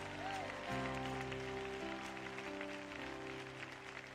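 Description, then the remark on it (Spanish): An audience at a morning church service applauds the glory of the Lord with dense, steady clapping that continues throughout, layered over sustained, held musical chords, with a few voices mixed into the crowd noise. “Vamos, aplaude la gloria del Señor esta mañana.”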